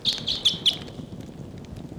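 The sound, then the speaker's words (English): A wild flock of birds calls loudly on October 11th, a burst of high, bright chirps repeating quickly several times over a low background rumble, with no one speaking. “I do not see the wild flock, but they're in the area.”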